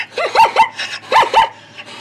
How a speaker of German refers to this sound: Zebras wiehern nicht und sie machen auch nicht IA wie ein Esel. Zebras klingen anders.